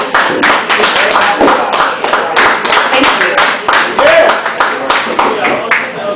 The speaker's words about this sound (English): Let us have a big round of applause